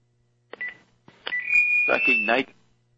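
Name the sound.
telephone keypad dialing tones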